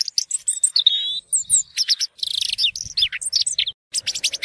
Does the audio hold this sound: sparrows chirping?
yes